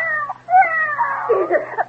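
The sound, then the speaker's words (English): A cat named the Emperor, standing on a stove, lets out a drawn-out, wavering yowl lasting about two seconds after being slapped, rising and bending in pitch with harsh, strained overtones, loud and alone without any talking. “How dare you slap the Emperor?”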